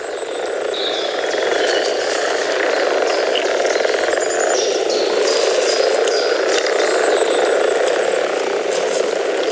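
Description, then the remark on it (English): A dense, unbroken chorus of frogs gathering around a garden pond, croaking and purring together, a steady churning drone with many overlapping calls and faint higher chirps scattered through it, with no voices. “Do you have frogs gathering around your pond at this time of the year?”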